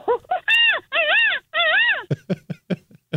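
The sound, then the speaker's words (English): A person on a radio show imitates a monkey call: a few short hoots, then three long, loud wavering whooping cries rising and falling in pitch, ending in a quick run of sharp, choppy chattering bursts. “Let's hear your monkey.”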